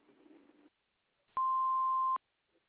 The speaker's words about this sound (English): Leave a message after the beep, and thanks for calling.